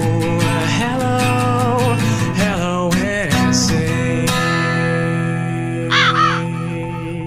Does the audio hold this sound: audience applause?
no